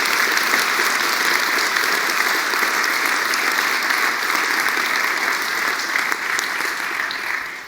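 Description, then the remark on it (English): A large crowd applauds steadily for a group of event organizers, a dense wash of many hands clapping at once that holds loud and even for several seconds before tapering slightly at the end. “Clap your hands for a group of organizing people.”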